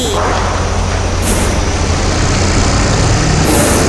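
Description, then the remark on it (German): An excavator works at a construction site at the Zentrum Schöneweide, with a loud, steady engine roar and deep rumble, broken twice by sharp bursts of high hydraulic hiss. No voices are heard. “Alles neu macht der Bagger.”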